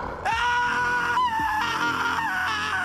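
A man in costume standing outside a house window screams at the top of his lungs in one long, loud, sustained cry that wavers slightly in pitch and continues without a break, piercing.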